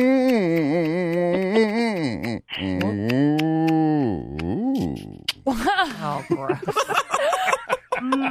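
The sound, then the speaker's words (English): A person on the Kid Craddock Morning Show imitates a cow being milked with long, wavering moo-like groans that rise and fall in pitch, followed by choppier, laughing vocal bursts, all loud. “please take us out with your best impersonation of a cow. Oh, of a cow. Being milked.”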